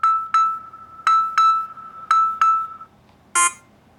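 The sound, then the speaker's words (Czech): A phone call ringing tone from a test emergency call placed through the Záchranka app at Czech Radio in České Budějovice: a steady electronic tone pulsing in quick pairs, three double beeps at an even rhythm, followed by a brief harsher burst, clear, with no talking. “Posloucháte Český rozhlas České Budějovice, pořad Zdravíčko, ve kterém se teď odehraje zkušební telefonát na aplikaci Záchranka. Mačkám přivolat pomoc.”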